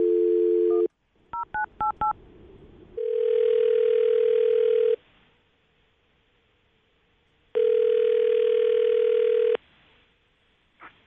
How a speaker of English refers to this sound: I'm going to dial the phone number, let you make your Awkward Tuesday phone call